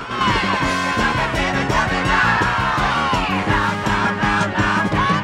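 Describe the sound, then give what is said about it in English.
A man screams loudly and continuously as he rocks back in a car seat with his hands held over his ears, his strained, wavering voice sustained over a dense, pounding background of low, rhythmic sound that persists throughout. “He eventually rocks back in his seat, screaming with his hands held over his ears.”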